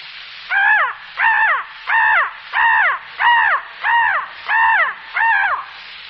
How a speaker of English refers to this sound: And one of the most destructive of all birds, the crow.